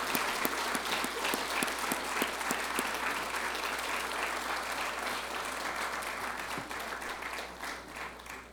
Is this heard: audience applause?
yes